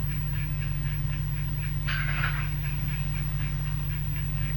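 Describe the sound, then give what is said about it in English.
A steady, rhythmic croaking of bullfrogs repeats over a deep continuous drone, with one louder, rougher call breaking through midway, around a lake at night. “Frog. What kind? Bullfrog.”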